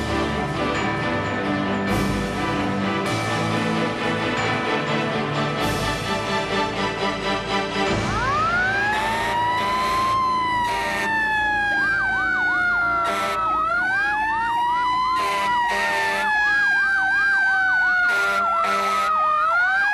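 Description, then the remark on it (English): Fire Engine 4 responding to a car fire on Albany Avenue: its heavy rumbling motor is joined partway through by a loud siren that winds up, then wails and warbles in rapid rising-and-falling sweeps, with no talking. “Engine 4 is responding. Let's go.”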